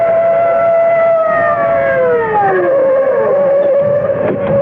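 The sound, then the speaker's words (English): Loud police sirens of two patrol cars wail together at night in overlapping tones, their pitch sliding downward midway as the cars hurtle past, with a low engine rumble underneath and no voices. “Above them, on the bank, at the edge of the circle of light from the overhead street lamp, the bushes still wave slightly in the wake of Augie's flight from the blare of police sirens as 2 patrol cars come hurtling out of the night.”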